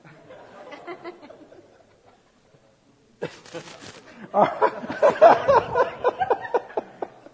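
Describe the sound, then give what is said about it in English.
Birds call in a rapid, rhythmic run of harsh, repeated notes, fairly loud, following a stretch of soft murmuring and a brief rustling burst. “Look at the birds. Free and unfettered, not tied down to a job description.”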